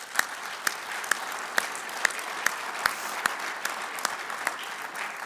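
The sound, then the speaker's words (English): An audience applauds the announcement that Canada's Expanding Market Opportunities Program for wood exports has been renewed; a dense wash of hand claps with a few sharper individual claps standing out at irregular moments. The clapping holds an even level throughout. “You can clap for that.”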